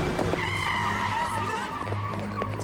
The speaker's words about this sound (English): And now, he's going to get hit by a van, if you remember, sir.